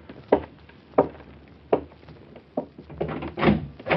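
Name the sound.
door being opened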